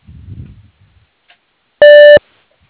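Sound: voicemail recording beep tone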